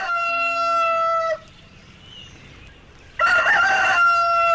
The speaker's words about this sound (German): Wenn das so ist, dann bitte lasst mich noch einmal euer legendäres Kikeriki hören. Da schloss der Hahn die Augen, um sich ganz auf seine Stimme zu konzentrieren und besonders schön zu krähen.